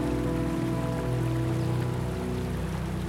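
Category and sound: nature, stream of water flowing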